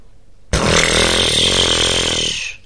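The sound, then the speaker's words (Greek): During a breathing exercise, a person inhales and then blows a long, buzzing lip-flutter exhale, imitating a horse's exhale, a steady rumbling vibration lasting about two seconds before trailing off. “Θα εκπνεύσουμε όπως εκπνέει ένα άλογο.”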